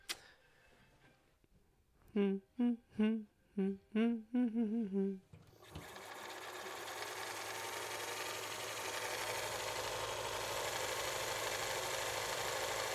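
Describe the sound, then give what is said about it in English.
An iPhone ringtone plays a quick run of bright melodic tones for about three seconds, then cuts off and gives way to a steady, rushing background hum. “Whose phone is that? Oh, my mama's phone. I thought that was yours.”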